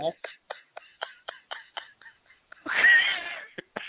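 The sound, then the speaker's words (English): A woman's cats meowing: a rapid run of short, clipped meows in a steady rhythm, then a louder, drawn-out yowl, followed by a couple more brief calls. “Yeah, I felt like she was being eaten by her cats”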